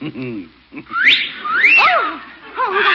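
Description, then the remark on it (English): A parrot left on a porch gives a run of bright, swooping whistles that rise and fall in pitch, mixed with a few lower chattering squawks, loud and lively throughout. “That's a parrot. Very talented.”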